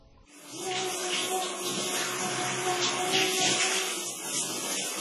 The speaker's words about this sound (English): He's having a shower.